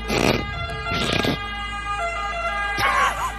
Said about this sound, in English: This is an Italian siren first.